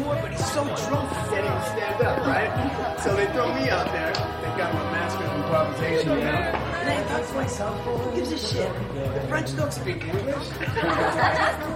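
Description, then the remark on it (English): A dense crowd of party guests at a large house in Beverly Hills chatters and murmurs at once, with occasional laughs rising out of the steady hubbub of overlapping voices. “Max lets himself into the property, where a party is in full swing.”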